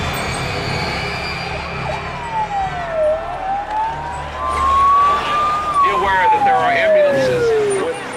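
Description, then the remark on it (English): An ambulance siren wails in slow rising and falling sweeps, loud, over a busy background of crowd noise and indistinct voices, as dozens of ambulances arrive on a football field after a crowd crush. “Finally, dozens of ambulances arrive on the field.”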